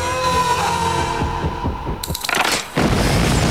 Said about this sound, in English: An explosion rips through the van. A huge fireball fills the air, scattering charred debris and blowing Jimmy off his feet.